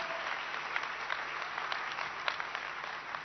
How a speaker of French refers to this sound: Un fuerte aplauso. Applaudissons fortement l'œuvre du Seigneur.